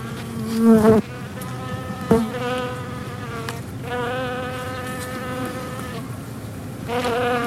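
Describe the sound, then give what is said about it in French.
Bees buzz in a steady drone, the hum rising and falling in pitch as individual insects pass, with a few louder swells and a brief thump partway through. “D'ailleurs, on parle de l'abeille chamanique, que ce serait la première approche chamanique, enfin des choses comme ça.”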